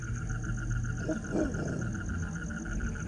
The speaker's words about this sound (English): It's a dog.